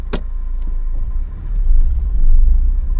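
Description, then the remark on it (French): The engine of a small burgundy Twingo car rumbles steadily at night in November 2011, its low drone swelling louder in the second half, with a brief sharp click near the start. “Novembre 2011. Nuit. Twingo Bordeaux, qui ne s'appelle pas encore Courtenay.”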